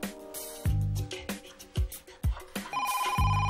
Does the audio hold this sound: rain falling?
no